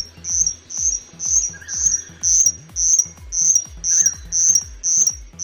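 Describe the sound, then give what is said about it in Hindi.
A Sichuan bush warbler, a newly identified bird species from central China, sings a steady series of about ten high, buzzy, insect-like notes, roughly two per second, clear over a low background hum. “सिशवा Bush warbler नामी इस चिड़िया की आवाज पहली बार एक स्वीडिश तहकीककार ने 20 साल कबल सुनी और अब उसके डीएनए, कलर और साइज के जायजे के बाद उसे नई नस्ल करार दिया गया है।”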